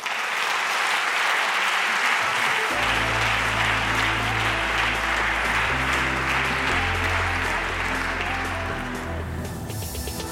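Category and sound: crowd, audience applause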